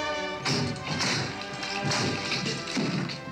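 Loud, heavy knocking on an apartment door: four or five forceful thuds at an uneven pace, with a resonant booming low end and no voices.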